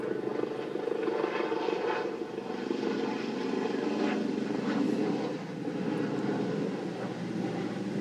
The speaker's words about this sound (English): So in case I didn't say it, I'm at one of my happy places. I'm at the park recording this podcast episode. And there's a helicopter flying over.